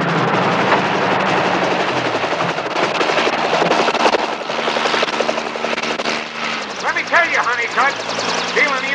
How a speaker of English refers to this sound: Helicopter is slightly more serious than grabbing the family car Saturday night.